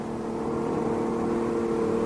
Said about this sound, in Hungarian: Jaj, nekünk, jön már a busz.